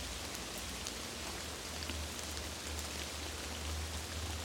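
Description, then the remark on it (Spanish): Steady rain falls continuously, a dense even hiss with scattered droplet taps and a low rumble underneath, no voices present. “Quédate aquí unos momentos disfrutando del poder y la magia de la lluvia.”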